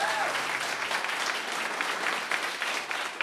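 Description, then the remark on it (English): A left-leaning crowd applauds steadily as Congressman Ro Khanna of California is introduced, a dense wash of many hands clapping at an even level throughout without rising or fading, with no voices standing out. “This is a proper lefty crowd. We're getting applause for all the right things.”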